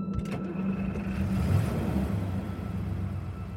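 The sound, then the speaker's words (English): A truck engine revs with a steady, throaty low rumble and a faint whine above it, holding loud for a few seconds with no pauses or voices; the truck is floored down a dark country lane, chasing someone on foot. “Behind the girl, the engine revved, and with its dim yellow lights illuminating her panicked frame as it darted back and forth like a frightened rabbit.”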